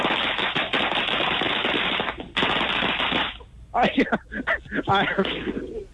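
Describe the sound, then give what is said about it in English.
A string of firecrackers, the final roll of fireworks, pops in a rapid, dense crackle for about three seconds, with one brief break, sounding loud and slightly tinny, throwing sparks into the air. Then it stops and a voice begins talking. “I think part of me is on fire, actually, because that was a string of firecrackers that threw sparks in the air.”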